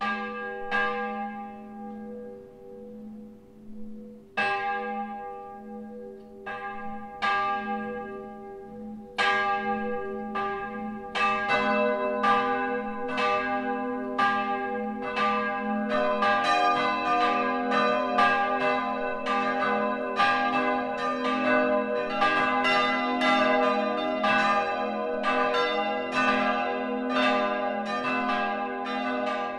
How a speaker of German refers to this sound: In diesem Motiv erklingen die vier Glocken der Roßtaler Pfarrkirche, wenn sie zusammenläuten.